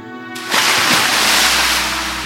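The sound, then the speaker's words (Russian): A loud splash into the sea at about half a second, followed by a steady rush of waves and surf washing on continuously. No voices are heard. “Он несколько раз перекувырнулся в воздухе и плюхнулся в море.”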